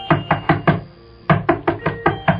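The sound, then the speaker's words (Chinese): Someone raps on the door of a house in the mountains on a moonless night in two quick bursts, four sharp knocks, a short pause, then five or six more, fairly loud with no voices. “有人敲门，姐姐问， 是谁在外面敲门？”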